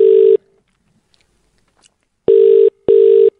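A telephone ringback tone on an outgoing call from the Today FM radio show to a listener in Prospect: one ring cut off, a pause, then two close rings in a row, loud and steady, with no voices.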